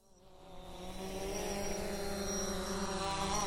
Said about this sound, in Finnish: Ja haluatko kuulla tämän uuden varoitusäänen, minkä mä oon säveltänyt?